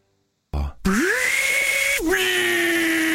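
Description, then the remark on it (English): A Ryobi 18-volt cordless drill driver revs up after a brief clatter, then whirs with a steady, high-pitched motor whine that dips for a moment before holding loud to the end. “18-volt drill driver. 8-piece combo kit.”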